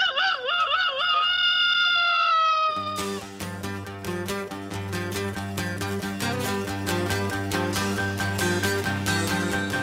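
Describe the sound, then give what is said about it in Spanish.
A voice imitates a chicken's cackle as a homemade doorbell, in a loud, wavering, warbling burst lasting a few seconds, then upbeat music with a steady beat cuts in and continues. “Yo le voy a dar timbre casero. Dale, …, cacarealo por tu cuerpo.”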